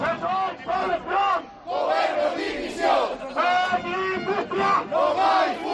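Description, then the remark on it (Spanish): Thousands of protesters marching through the streets of Viveiro, Lugo, Spain, in support of Vestas and Alcoa plant workers chant the slogan "Sin industria no hay futuro" in unison, loud rhythmic bursts of many voices repeating in regular phrases with short pauses between them. “Sin industria no hay futuro, fue uno de los gritos que más se repitieron en la manifestación que recorrió las calles de Viveiro y en la que miles de personas arroparon a las más de 600 familias que se van a quedar sin trabajo con los ERE presentados”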